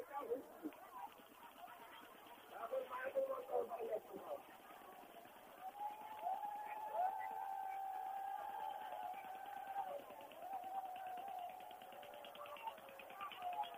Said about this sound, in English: You can hear the boat taking like people, thousands of people here.